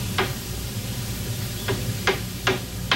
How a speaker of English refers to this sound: Hearing the hammering outside, she steps toward a sliding door.